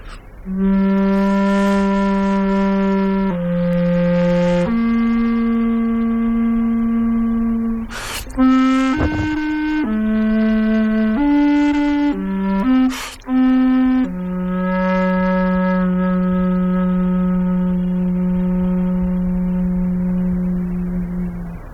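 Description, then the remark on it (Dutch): A handmade bass recorder plays a short, slow melody of low, breathy sustained notes with a few quick higher runs in the middle, ending on a long held low tone, with no voices. “Dus daar is deze basblokfluit een mooi tijdstip van.”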